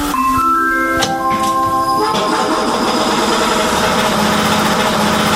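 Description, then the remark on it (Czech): A steady electric hum with layered tonal whines from a historic tram in Plzeň, its pantograph raised to the trolley wire, gives way about two seconds in to the tram's loud rumbling, chugging air compressor starting up and running steadily to the end, with no talking. “Nelekněte se, rozběhne se nám kompresor.”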